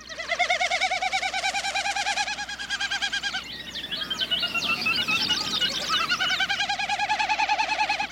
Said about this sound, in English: And a Wilson snipe.